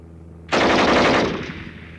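A single sustained burst of rapid machine-gun fire from an aircraft, aimed at an unlit enemy plane at night, erupts abruptly over a low engine drone, a dense rattling roar that fades out after about a second, leaving the hum.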